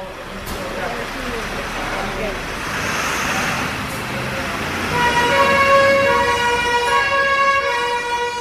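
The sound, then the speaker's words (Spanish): Busy roadway rumble gives way midway to a fire engine's siren blaring, its loud, steady tones riding over the traffic noise until the end, as fire trucks respond to a vegetation fire emergency in Bárcena de Cicero. “En 3 minutos, prepararse, montar y camiones adelante, porque siempre van con 2 unidades y actuación.”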